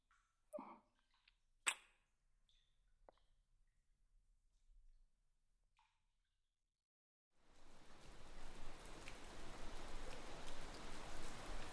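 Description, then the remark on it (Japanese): Steady rain starts suddenly after a few seconds of quiet broken by scattered clicks and taps, then keeps pouring as a dense, even hiss with no one speaking. “雨、止まないね。”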